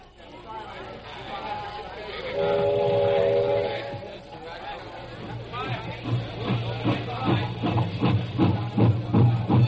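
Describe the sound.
A passenger train rolls along with a steady low rumble, a short whistle sounding early on, while people talk and murmur over the constant clatter of the ride.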